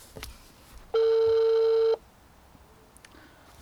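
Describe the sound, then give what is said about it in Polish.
A single electronic ringback tone from a phone call to a guest during an on-air broadcast sounds for about a second. It is a steady, loud harmonic buzz that starts and stops abruptly, with low background noise and no talking around it. “Już dzwonimy.”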